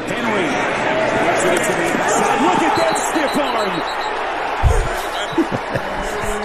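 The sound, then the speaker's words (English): A steady stadium crowd roar, then one sharp, low, booming thud as Derrick Henry hits Alexander Myers with a football stiff arm, followed by a few softer thumps as the crowd noise continues. “Let's listen to that because it sounded like a gunshot.”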